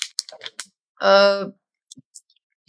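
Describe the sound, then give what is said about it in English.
A paper bag is handled, giving a quick flurry of crisp crackles and rustles, then a brief voiced sound, with a few faint scattered clicks afterward. “The system today we have is this paper bag.”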